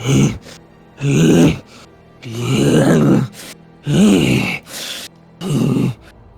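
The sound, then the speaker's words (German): A voice imitates heavy, snorting breaths: about six loud grunting huffs and exhales in an uneven rhythm, some voiced and growly, one a sharp airy blast, with short pauses between them. “Während ihr weitergeht, hört ihr hinter euch einen Schnaufen.”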